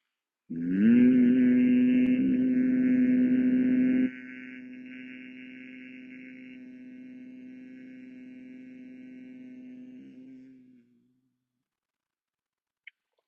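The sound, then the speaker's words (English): A single sustained low-pitched human hum on one steady note, made on the exhale during a humming breath practice in Shanmukhi Mudra, lasts about ten seconds, loud at first, then quieter after a few seconds before trailing off, with a faint click afterward. “Exhale, hum.”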